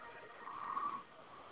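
A single drawn-out snore heard through a narrow, tinny telephone line, swelling to a raspy peak mid-clip and fading, over a steady faint hiss.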